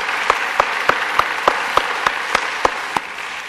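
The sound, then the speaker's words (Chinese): An audience applauds a combined choir and its conductor in a dense, steady wash of clapping, with a few sharper claps punching through at an even, rhythmic pace. No one speaks. “我们给他们再一个掌声啊！”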